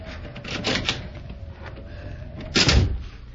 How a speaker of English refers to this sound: Here's a door. It's only unlocked. Oh, it is.